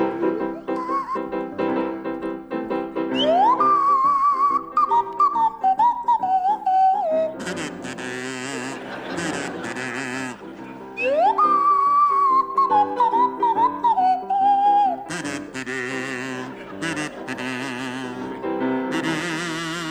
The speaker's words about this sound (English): Right, the first song is Funiculi Funicula, and it'll feature Barry Cryer on the kazoo and Graham Garden on the Swanee whistle.